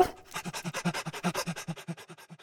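A dog pants rapidly and steadily, with quick rhythmic breaths repeating evenly for a couple of seconds. No one speaks.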